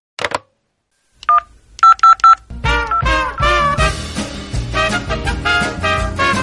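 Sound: telephone number being dialed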